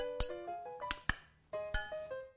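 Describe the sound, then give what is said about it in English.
A spoon stirring a drink made with English Harbor Aged 5 Years Antigua rum in a glass, ringing with several bright clinks and pings at an uneven pace, fairly quiet, with no talking. “We'll stir it around a little bit.”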